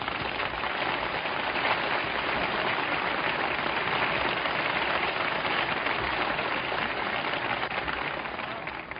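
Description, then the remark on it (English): An audience on the radio show Command Performance claps steadily for several seconds as a singer arrives, a dense, even wash of many hands with no pauses and no voices on top, tapering only slightly at the very end. “Must you applaud every time she takes off her coat?”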